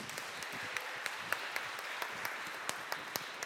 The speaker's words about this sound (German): Kleinen Applaus bitte